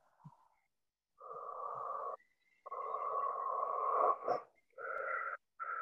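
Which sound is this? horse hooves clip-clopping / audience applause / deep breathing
deep breathing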